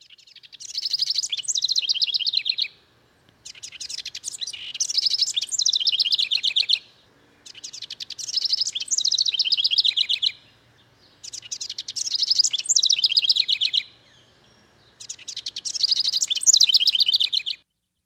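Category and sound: bird, house wren song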